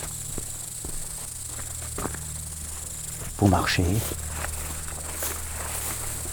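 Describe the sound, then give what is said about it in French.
Footsteps walking outdoors, a few soft, irregular crunching steps over a steady low hum and hiss, with a brief louder warbling sound breaking in around the middle. “Vous marchez.”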